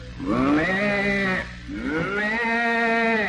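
Two drawn-out, wavering bawls from young calves calling to their mother, one after another with a short gap, each loud, rising then sliding in pitch, with no other sounds around them.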